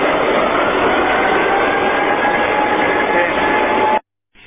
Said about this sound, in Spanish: Y ahí está la sirena que algunas veces se escucha también en Sanón, cambiando justamente el turno.